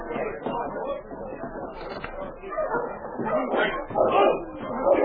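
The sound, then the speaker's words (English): A sled dog team led by the dog King barks and yips in a busy, overlapping chorus as it races down the street past a cafe, the noise swelling louder toward the end as the team draws nearer. “It seems to me I hear a dog team coming down the street.”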